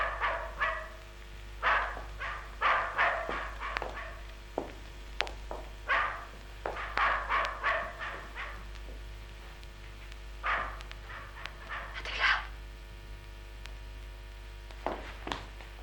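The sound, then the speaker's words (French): Several dogs bark in frantic, irregular bursts, barks tumbling over one another in clusters with short pauses between, over a steady low hum. “Les chiens sont déchaînés. Ils ne vont pas nous laisser dormir.”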